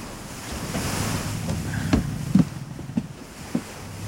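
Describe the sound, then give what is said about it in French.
Steady ocean surf and wind wash over a low engine-like rumble of a schooner approaching over the water toward an island, with a few hollow knocks or slaps against the hull. No one speaks. “Un bateau ? Vous croyez qu'ils viennent nous voir ?”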